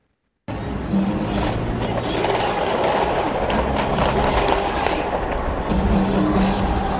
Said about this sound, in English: Multiple gunshots, too fast to count, just as a parade and rally for the Chiefs was wrapping up outside Kansas City's Union Station.